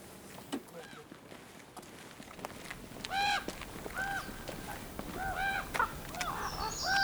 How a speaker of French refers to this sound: Ah, c'est eux là. À mon avis, c'est les corbeaux de la sorcière. C'est quoi? Ils sont venus voir qu'est-ce qu'on bricole ici.